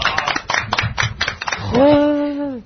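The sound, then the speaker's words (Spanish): A short burst of scattered hand clapping, around ten quick claps, followed by a sustained high vocal whoop like a cheer, ending the brief applause effect. “Un aplauso, por favor.”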